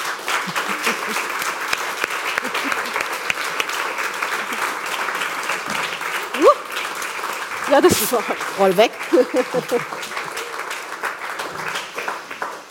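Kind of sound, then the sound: crowd, warm applause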